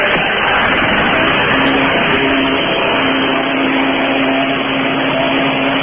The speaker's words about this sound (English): I got my hose back into the toilet, getting ready to turn on the motor, fired up.